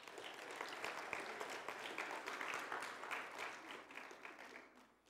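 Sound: audience applause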